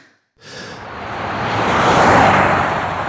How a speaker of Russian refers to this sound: Пролетела машина, вот хорошо бы вот так вот пролетать по всем дорогам в России